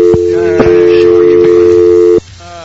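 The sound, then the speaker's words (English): A loud, steady telephone line tone, like a busy signal, hums over a phone connection for about two seconds after an incoming call was answered too late, then cuts off abruptly, leaving faint background noise. “I took too long to answer the phone.”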